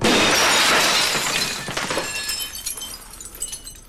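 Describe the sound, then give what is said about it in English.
The glass of an office door in a hospital is smashed, shattering loudly in one big crash, followed by scattered pieces tinkling and clinking as they fall and settle over a couple of seconds. “Edgar is smashing the glass of an office door in the hospital.”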